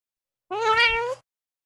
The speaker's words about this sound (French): Miaou!